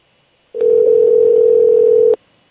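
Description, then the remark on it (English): A single steady electronic ring of an outgoing phone call to a woman, a loud, even tone lasting under two seconds with faint clicks at its start and end, then silence. “We're calling her.”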